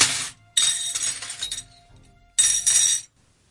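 Plates shatter in three bright, crashing bursts, each a loud spray of clinking shards that rings briefly and fades, with short silences between the breaks and no voices.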